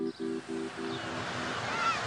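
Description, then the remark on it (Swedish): Ocean waves wash onto a beach in a steady, broad hiss of surf that swells slightly toward the end, with a brief pulsing low hum at the start. “sitter i en solstol och tittar ut över vågorna.”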